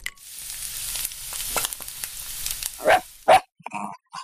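Puppies yip and bark, with two sharp high yips close together near the end, following a stretch of steady sizzling, hissing noise; a few softer whines trail off afterward.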